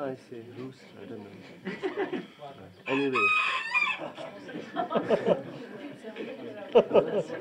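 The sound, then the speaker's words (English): A rooster lets out one loud crow partway through, with voices talking before and after it and hens clucking. “The male is called cock, no? The female is called hen. So this, anyway, the male.”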